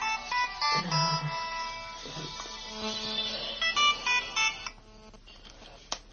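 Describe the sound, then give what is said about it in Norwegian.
A telephone rings with a run of bright electronic tone bursts, fairly loud, repeating in quick pulses before cutting off, followed by quiet background noise and a single sharp click. “Ja, ja, du får bare stoppe telefonen litt.”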